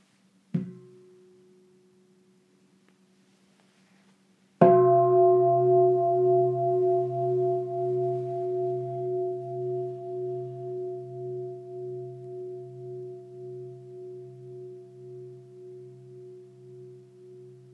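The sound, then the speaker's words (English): A meditation bell, rung to end a meditation, gets a light tap, then after a pause a full strike. Its rich, steady tone hangs on with a slow wavering pulse, fading gradually over more than ten seconds with no speech. “So I'll invite the bell to end our meditation, and please just listen to the sound of the bell with your whole heart.”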